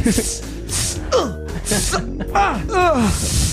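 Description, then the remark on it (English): A person loudly imitates the breathing of someone lifting weights at the gym: several forceful, hissing exhales in quick succession, mixed with strained, grunting vocal tones. “It's more of like a piston valve, like a release, like a exhaust.”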